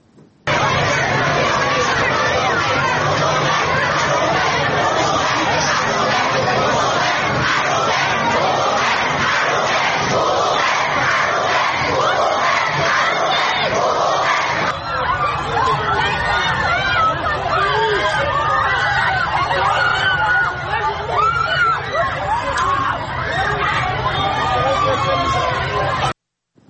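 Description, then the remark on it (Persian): Animal rights supporters at a protest rally in Tehran, Iran chant and shout together, steady and loud throughout, with a dense babble of many voices; the chant shifts in character about halfway through, becoming more ragged and mixed with chatter. “اما گروهی از حامیان حیوانات این هفته در تهران دست به تجمع اعتراضی زدن که تصاویری از اون رو با هم میبینیم.”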